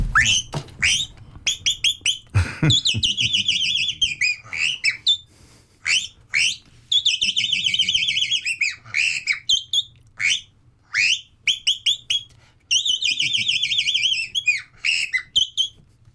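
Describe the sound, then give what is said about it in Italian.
A person whistles a chaffinch imitation with the mouth, close to the microphone: repeated bright, descending trilled phrases with sharp chip notes between them, loud and clear with no talking. “Ci fai un altro uccello, Poiana? Sì. Cos'è? Fringuello.”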